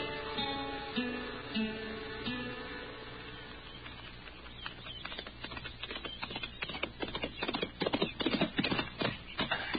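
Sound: horse hooves clip-clopping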